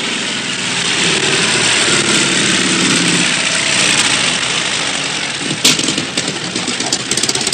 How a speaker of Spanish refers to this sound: El coronel Dax llega al cuartel en una moto con Sidecar.